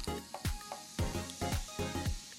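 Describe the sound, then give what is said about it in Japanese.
A fizzy Suntory non-alcoholic highball (Non-Al Banshaku) pours into a glass, with steady effervescent crackling and a series of regular gurgling glugs roughly twice a second. There is no talking. “じゃあ注ぎますよ。 お願いします。 音聞こえるかな。”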